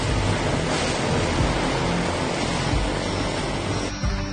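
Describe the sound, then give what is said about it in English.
A steady, loud roar of a propeller aircraft mixed with rushing water and spray, like a float plane skimming across the surface as it touches down, with no voices. “Go to be touching down right now. There's no water over by Collins, right? Yep. That's how you land a float plane.”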